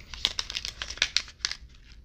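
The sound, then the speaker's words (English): A crinkly packet being opened, with a rapid run of sharp, papery crackles and rustles over about two seconds, bright and moderately loud, with no talking. “I don't know if you heard that, but I do have the packet. So here's the opening and sniff check.”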